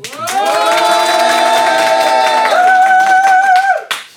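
A studio audience on the show Black Moon Test claps and cheers loudly for a contestant as an applause-meter vote, about four seconds, with a sustained high whooping cry that shifts pitch midway over the steady applause before it cuts off abruptly.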